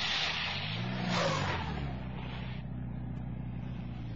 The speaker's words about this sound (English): The road was more like an old cart track, muddy and overgrown. About a half a mile farther on was a break in some trees lining the road. I drove into them and stopped the car where I thought it would be well hidden from passing view.